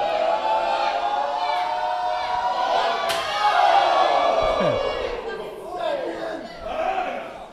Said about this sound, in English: Crowd. Crowd is cheering them on. They want one more time. Crowd calling for one more time. One more time.